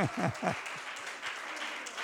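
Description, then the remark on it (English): An audience claps to give the Lord a hand, a dense, steady patter of many hands that stays even throughout, while a voice briefly speaks over the start. “All right, you can give him a hand. If you can clap.”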